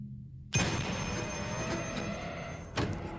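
A disconnected black wall telephone's bell starts ringing abruptly after a moment of low hum, a sustained metallic jangle that gets a fresh jolt near the end, fairly loud.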